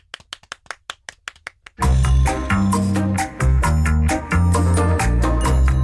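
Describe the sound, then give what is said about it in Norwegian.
About ten sharp, evenly spaced claps ring out for under two seconds, then loud music with heavy bass and sustained chords takes over and runs to the end. “Da klapper vi for det.”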